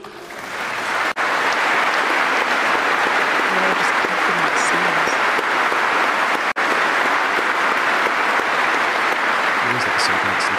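A large audience applauds in a dense, steady roar of clapping that stays loud and unbroken for about ten seconds, with only two momentary dips in the sound.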